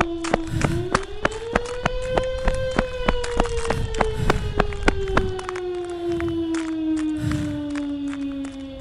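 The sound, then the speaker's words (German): Quick, regular running footsteps of a gangster fleeing a jeweller's with a bag of jewellery patter along at a steady pace, heard over the jeweller's loud wailing alarm system, whose pitch rises and slowly falls throughout. “Lissy schnappt sich den Schmuckbeutel und rennt weg.”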